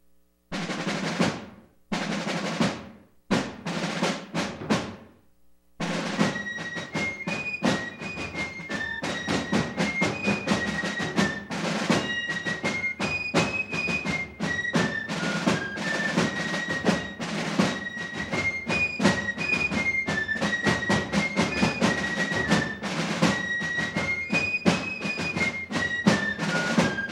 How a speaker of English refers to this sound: That was the Lewis and Clark Fife and Drum Corps, a great group locally, Metro St. Louis.